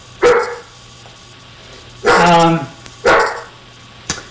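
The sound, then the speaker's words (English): Several of the speaker's own dogs bark in a few sharp bursts, one drawn-out bark with a whining, yelping tone in the middle, heard in the background over a low steady hum. “That's my dogs in the background. I hope they'll stop soon.”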